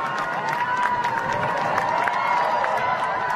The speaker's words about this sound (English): You're listening to the gasps and cries of amazement from witnesses to a total solar eclipse in Australia just a few weeks ago on November 13th, 2012. The eclipse is a curious gift from nature that occurs somewhere on Earth about every 18 months.